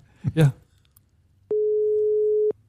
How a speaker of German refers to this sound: So klingt mein Telefon.